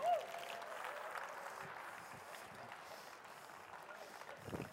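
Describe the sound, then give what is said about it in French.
Steady audience applause for Serge Cusson, a dense wash of many hands clapping that holds at an even level throughout, swelling slightly at the very start and again near the end. “Voulez-vous applaudir Serge Cusson?”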